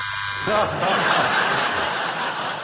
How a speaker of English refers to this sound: Challenges are made via our hilarious state-of-the-art buzzer system. For the purpose of clarification, Stephen goes... Rob goes...